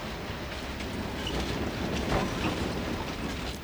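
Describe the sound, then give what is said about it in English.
A continuous, heavy rumble of an old passenger train rolling along the rails in Patagonia in June, with rattling, clattering texture throughout and a few faint higher squeaks, steady, with no one talking. “This train is Patagonia in a nutshell.”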